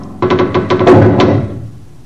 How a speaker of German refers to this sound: Schließ die Tür hinter dir zu